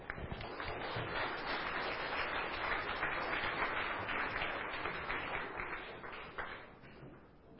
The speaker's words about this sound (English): Thank you very much. Give them a hand.